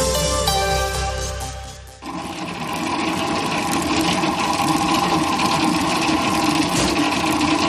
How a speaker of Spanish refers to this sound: Esto que escuchas es el sonido de una batidora, la batidora de un horno, de una panadería.